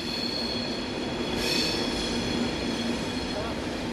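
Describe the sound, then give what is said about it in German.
A train rolls steadily along the rails, a continuous low rumble topped by thin, high-pitched wheel whine, swelling briefly partway through before settling back to an even drone. “um 5 Uhr war sie im Depot zu Biel und hat den Zug zweckgemacht.”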